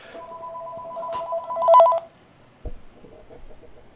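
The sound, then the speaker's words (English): A telephone rings with an incoming call to a live radio program, a steady two-tone electronic signal for about two seconds, briefly warbling at the end, then a sharp click gives way to quiet line hiss. “I hope this is a real phone call.”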